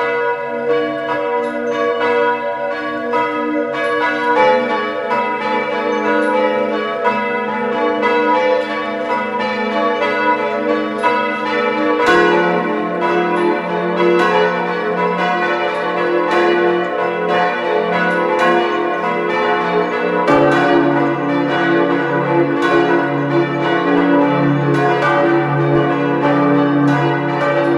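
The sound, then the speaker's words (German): Several bells of the parish church of St. Martin in Feistritz an der Gail, Carinthia, peal together at 12 noon in a steady, overlapping ring, loud, their rich tones sustaining throughout with no voices present. “Es ist 12 Uhr. Sie hören die Glocken der Pfarrkirche St. Martin zu Feistritz an der Gail in Kärnten.”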